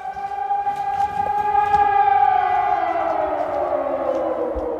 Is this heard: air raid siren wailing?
yes